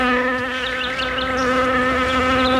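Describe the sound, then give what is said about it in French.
A steady buzzing of bees fills the whole stretch, a continuous droning hum with wavering higher tones from several insects flying around, no voices present. “Pourrais-je abuser et te demander quelques abeilles?”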